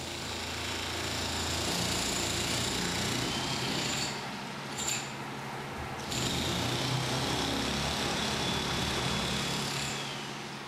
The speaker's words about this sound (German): Baulärm dringt aus einem Haus in der Nachbarschaft Mohammeds.